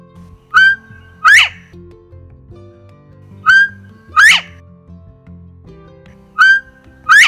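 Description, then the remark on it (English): A northern bobwhite calls three times, each a clear two-part whistle: a short level note followed by a loud, sharply rising whistle, repeated every few seconds over soft background music. “So that was a bird that used to be found all across the state of Pennsylvania called the Bob White.”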